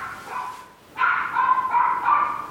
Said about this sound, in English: Yappy dogs.